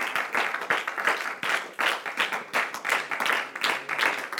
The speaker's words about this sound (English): Why don't we give him a hand clap of praise? Can we do that? Praise God.